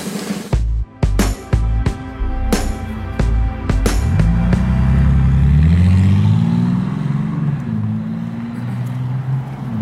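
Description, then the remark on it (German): Car engines rev in sharp, choppy bursts, then settle into a loud, sustained roar with rising and falling pitch as they accelerate, dominant with no talking. “Rührende Motoren.”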